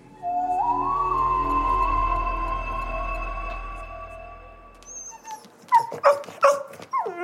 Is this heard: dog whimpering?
yes